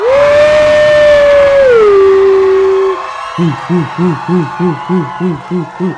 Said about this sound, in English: On the count of three, can you all scream and like cheer as loud as you can? Kay. Yeah? All right, ready? One, two, three.